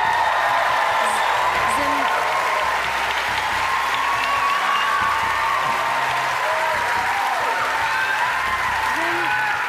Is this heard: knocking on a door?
no